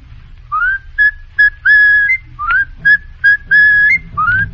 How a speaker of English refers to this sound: can you whistle it, if you don't mind? Oh, whistle tiger rag.